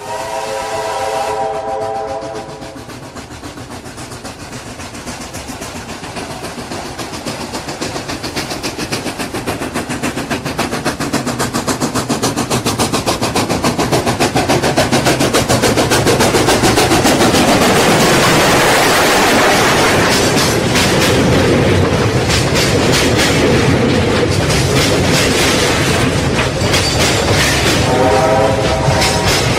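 A train whistle sounds, then a heavy, steady rumble of rail cars builds and rolls past loudly, with another whistle blast near the end. No voices.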